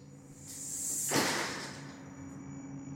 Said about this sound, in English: We fling aside the broken screen door.